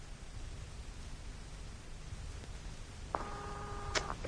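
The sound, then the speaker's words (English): Faint clicking over a steady hiss as a telephone is dialled, then a click and a thin electronic engaged tone that holds for about a second before another click cuts through. No one speaks. “Oh, dear, engaged.”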